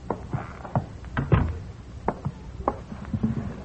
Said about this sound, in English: Well, sit down a minute. Close the door and sit down.